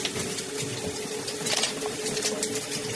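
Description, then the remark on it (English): A shower runs steadily, a continuous hissing rush of spraying water, with a faint low hum beneath it and no voices. “Sit down in the shower.”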